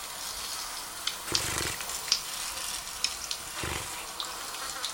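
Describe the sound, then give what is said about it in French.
A soft, rain-like patter of tiny taps on water, dragonflies laying eggs, with a steady hiss and a few brighter clicks scattered irregularly, and no voices. “Mais ce qu'on entend comme de la pluie, là, c'est la ponte ?”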